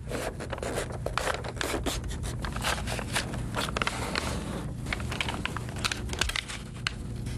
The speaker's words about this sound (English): I just love that crinkling sound.